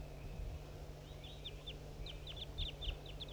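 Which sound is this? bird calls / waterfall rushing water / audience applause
bird calls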